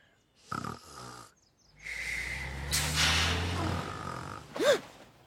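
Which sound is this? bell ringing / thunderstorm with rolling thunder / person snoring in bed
person snoring in bed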